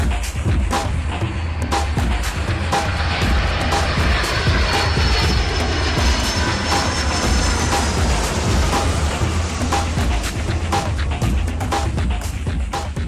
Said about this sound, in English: The didgeridoo means it's time for the Australia News Desk.